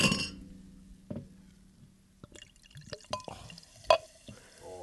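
Beer is poured into a glass, with sharp glassy clinks and a trickling, bubbling stream of liquid, fairly quiet, ending in a few scattered drips and clinks.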